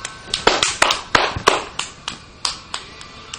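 A child claps their hands about a dozen times in quick, uneven succession, each clap sharp, with no talking.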